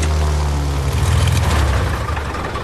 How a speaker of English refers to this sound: We can't let him hear the plane, though. I've got to cut the engine.